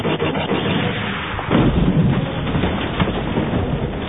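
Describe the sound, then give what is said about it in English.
A loud laser cannon blast from the lead Imperial speeder bike cracks out partway through, over a constant heavy roar of speeder bike engines and rumbling noise that fills the whole stretch without any voices. “The lead imp bike fired a shot from its laser cannon.”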